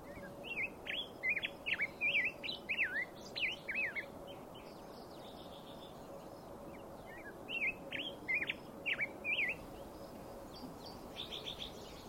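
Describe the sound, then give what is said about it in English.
A bird sings bright, rapid chirping phrases in two bursts, pausing in between. The song is clear over a steady low rumble of traffic from the I-70 highway far away, in a quiet mountain meadow of wildflowers beside an old mining road. “I'm standing here on this mining superhighway and listening to the birds and the quiet.”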